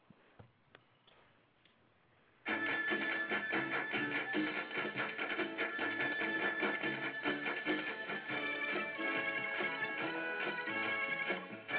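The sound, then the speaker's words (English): Tic-tac-toe game show theme music: a couple of seconds of sparse ticking clicks, then a loud, bright, busy instrumental theme bursts in and plays steadily to the end, with no voices. “Tic-tac-toe would be the game show theme.”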